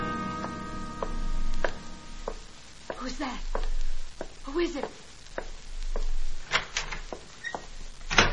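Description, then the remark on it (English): A door bangs shut, then a run of sharp metallic clicks and scrapes follows as a key left in the door is turned from outside to lock a person inside a lab, each click crisp. “She had left her key in the door, so it was easy to keep her in. I took the key with me.”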